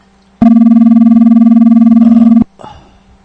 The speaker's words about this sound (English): That's a funky ringer. Yeah, it is, isn't it? I thought it wasn't. It's rather painful, too. Sounds English.